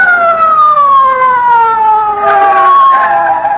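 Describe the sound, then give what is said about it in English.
A loud police car siren wails as the car approaches, its tone gliding steadily downward over a few seconds with a bit of added rumble near the end; no one speaks. “Look, here comes a police car.”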